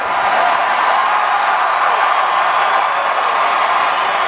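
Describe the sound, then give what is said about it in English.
A large crowd roars and cheers in a loud, steady wash of noise, with bits of clapping mixed in, holding at full intensity for about four seconds with no clear voices. The crowd is at a Stanley Cup championship celebration, reacting to player Chris Versteeg on stage. “You know, they could have got up there and said anything, and the crowd would have gone nuts. And they kind of did.”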